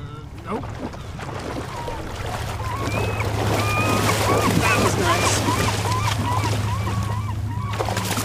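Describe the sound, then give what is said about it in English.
Icy cold water of the Kasilof River laps and sloshes steadily around a man standing chest-deep in it, holding the long metal pole of a 5-foot-wide metal dip net while fishing for salmon: a continuous wash of splashing, with a low droning hum and faint chatter underneath. “He stands chest-deep in the icy cold water, holding the end of the long metal pole.”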